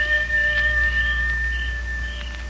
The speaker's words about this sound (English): Well, that there's either a real wolf out there, or else that's Nasha.